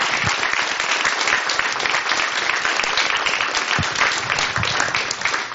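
Steady applause from an audience, many hands clapping densely and continuously at a fairly loud level, with no pauses and no voices standing out; a round of applause for Nancy Bagley, a career technician from San Luis Obispo High School, who is absent.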